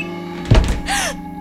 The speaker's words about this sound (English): Hello? Who slammed the door? Is someone in here? Hello?